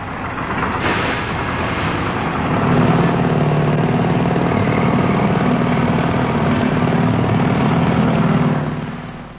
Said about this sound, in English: Teams, I shall shortly play in a sound recording of some well-known roadworks, which I'd like you please to identify.